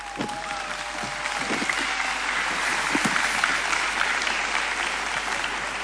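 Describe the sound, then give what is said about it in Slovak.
A large crowd of about 10,000 people applauds steadily at an event organised by the missionary society of St Vincent de Paul, a dense, continuous wash of clapping that holds at an even loudness for about six seconds, with no voices standing out. “Veľká vďaka a veľký potlesk.”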